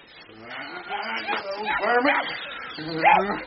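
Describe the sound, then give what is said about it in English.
A small lurcher dog yelps and whimpers in a run of high, wavering, distressed cries that rise and fall over a few seconds, growing louder toward the end, while a man thrashes it. “He's thrashing the poor little lurcher.”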